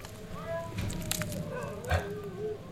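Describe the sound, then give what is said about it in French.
Dogs kept for a hunt bark outside an open window, a few scattered yaps mixed with thin whining tones, fairly faint and muffled. “Mes chiens vous importunent peut-être.”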